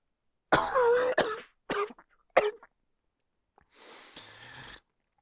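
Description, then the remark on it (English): A loud bout of coughing and throat clearing: a long hacking burst followed by two shorter sharp coughs, then a pause and a rough, raspy exhale or clearing of the throat. “I cough, and rot, my body will burst.”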